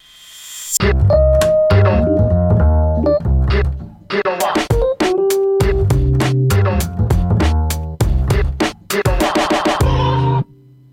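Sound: radio show jingle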